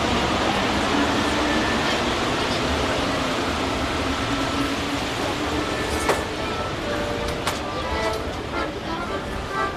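A subway train runs with a loud, steady rumble and roar that fills the whole recording, with a few sharp metallic clicks and squeals breaking through near the middle.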